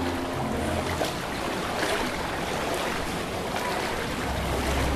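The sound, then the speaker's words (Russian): Water laps and sloshes steadily in a narrow canal in Venice, a continuous wash with soft splashes, a low rumble underneath, and no voices. “Почему-то так и вспоминается старая песенка «…». Венеция действительно так.”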